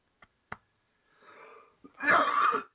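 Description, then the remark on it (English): Someone who has choked coughs: two short, sharp coughs, then a raspy wheezing inhale and a loud, strained burst of hoarse coughing and wheezing that trails off. No speech. “We need a cough button.”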